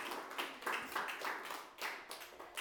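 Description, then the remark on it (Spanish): An audience applauds steadily to the glory of God during a Spanish-language church service, a dense wash of many hands clapping together with rhythmic surges, loud throughout, with no talking over it. “Gloria a Dios, dele un aplauso fuerte a la gloria de Dios.”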